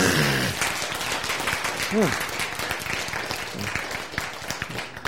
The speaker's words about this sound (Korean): 박수!